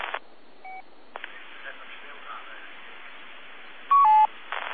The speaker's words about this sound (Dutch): Ik hoor alleen een piep. Dat is erg hinderlijk. Graag even die piep af en audio erbij.